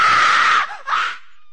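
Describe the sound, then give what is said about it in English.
A loud, shrill scream sound effect in a Halloween-night concert promo rings out alone, breaking briefly before a second, shorter shriek that cuts off abruptly into silence. “It's going to be a scream.”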